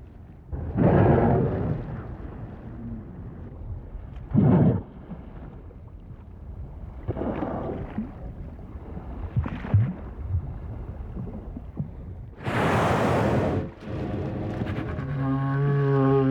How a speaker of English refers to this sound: We leave you this week in the company of right whales, snoring. Recorded by Roger Payne.